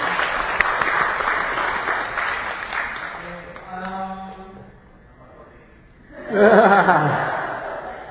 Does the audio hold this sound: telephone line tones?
no